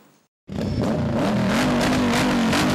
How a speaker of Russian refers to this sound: Увидеть отполированные до блеска мотоциклы, почувствовать мощь ревущего мотора для жителей областного центра не в диковинку.